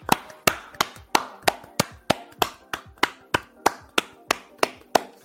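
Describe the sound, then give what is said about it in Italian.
Steady, sharp hand claps, about fourteen in five seconds at an even rhythm, like a small round of applause from one or two people, given for the audience of a show. No one speaks. “Beh dai, glielo vogliamo fare un applauso al pubblico?”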